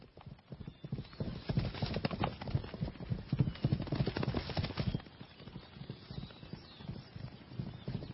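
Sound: horse hooves clip-clopping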